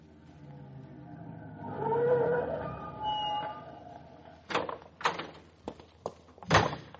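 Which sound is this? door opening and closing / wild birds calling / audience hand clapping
door opening and closing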